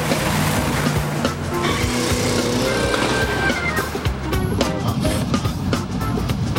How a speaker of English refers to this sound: Noah watches in his side view mirror as Zipporah pulls alongside in her Beetle, then parks in front of him. As she gets out, he drives away.